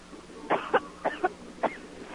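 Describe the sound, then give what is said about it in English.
A woman coughs in a rapid series of five harsh, sputtering bursts, each strained and throaty as if she is choking, fairly loud with no talking. “I can hear her choking. She's like coughing.”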